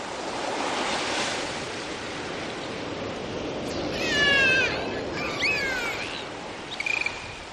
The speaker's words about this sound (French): Au loin, vous percevez des dauphins qui jouent en poussant de petits cris perçants comme une invitation à partager leur jeu.